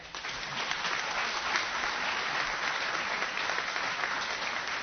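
crowd, audience clapping

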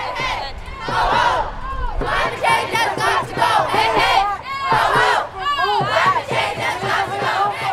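crowd, protest crowd chanting

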